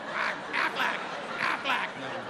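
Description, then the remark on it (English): A person imitates the Aflac duck, letting out five nasal quacks in a quick, uneven rhythm. The mimicked calls are moderately loud, with no other talking. “I spent the afternoon walking around the house quacking.”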